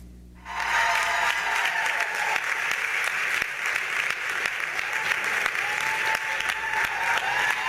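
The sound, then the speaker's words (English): A large audience breaks into loud, sustained applause after a brief quiet moment, giving activist Angela Davis a standing ovation as she appears, before she reaches the podium; the dense clapping continues steadily at full strength, with no one speaking. “When Davis appeared, before she reached the podium, her audience burst into applause and gave her a standing ovation.”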